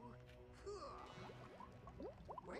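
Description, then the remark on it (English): Bubbles glugging up through river water, a steady run of quick, rising blips and gurgles, moderately loud over a low murky rumble. “Those bubbles!”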